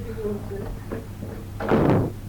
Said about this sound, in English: There's a knock.